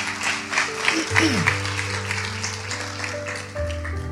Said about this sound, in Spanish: ¿Cuántos los que están aquí han experimentado lo que es la salvación, lo que es la vida eterna, hermano? Yo digo que eso merece darle una ofrenda de palmas a nuestro Dios, el Todopoderoso.